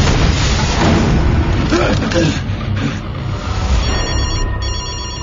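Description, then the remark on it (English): Near the end, Detective Craven's telephone rings in two quick trilling bursts, cutting through a heavy, continuous low rumble like an engine or storm that fills the whole recording. “Hey, Emma, Craven's phone.”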